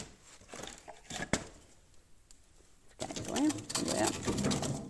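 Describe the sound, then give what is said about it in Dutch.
Wood being loaded into an open fireplace: a sharp knock of logs, scattered clattering, then a louder stretch of rustling and crackling mixed with a faint voice. “Om eens te kijken hoe je het geluid hoort van die open haard nu. Die ik bijvul.”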